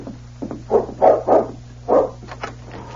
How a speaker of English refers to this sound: Then the dog barked. Sakes alive, that sounds like King.